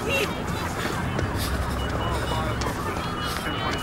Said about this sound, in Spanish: ¿La alerta sísmica? Pero, ¿si esto no es un temblor? ¡Alerta sísmica!